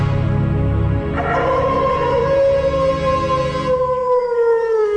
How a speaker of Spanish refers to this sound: Más tarde, al igual que los otros días, el lobo salió aullando del bosque.